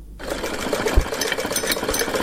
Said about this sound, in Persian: که با صدای ماشین خیاطی دختر جوان آغاز میشه که به حد نگرانی دارد.